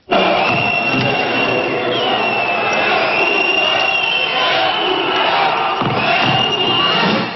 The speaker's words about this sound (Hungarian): A tömeg már reggel, az ünnepélyes zászlófelvonás közben elkezdett kiabálni, amikor a miniszterelnök megjelent a Kossuth téren. A skandáló tömeg később a Nemzeti Múzeumhoz vonult, ahol a hivatalos ünnepségek folytatódtak.